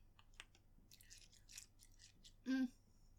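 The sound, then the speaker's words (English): Crisp crunching of a hard candy being chewed, several irregular crackly bites over a couple of seconds, ending with a brief loud hummed vocal sound. “Okay, I'm gonna try and chew.”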